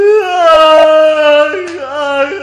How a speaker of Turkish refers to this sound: içeride bir sesler, bir ağlamalar. Niye ağlarsın?